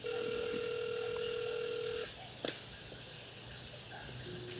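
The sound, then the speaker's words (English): A steady electronic phone ringing tone of an outgoing call hums for about two seconds, then cuts off abruptly as the call is declined, followed by a short click and faint line noise. “She declined my call, no?”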